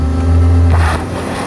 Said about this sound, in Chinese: 嗯，完了，陷进去了。你们得下来。 我们试着铲土给轮胎增加摩擦力，轰油门